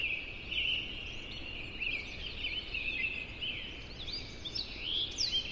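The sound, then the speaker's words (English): Many birds sing and chirp at once in a dense, continuous dawn chorus in Yosemite National Park, high overlapping calls blending together over a soft outdoor hush, some calls brighter than others. “Well, this is one of Dan's recordings of a dawn chorus of birds in Yosemite National Park.”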